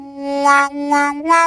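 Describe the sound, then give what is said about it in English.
A sustained harmonica note played by a musician swells into three bright "wah" openings as hands cupped around the harmonica, hinged at the thumbs, flap open and shut. The pitch stays steady, shifting slightly higher near the end, with no talking. “the third one is with the hands, because we form this cup around the harmonica and make kind of a hinge with our thumbs.”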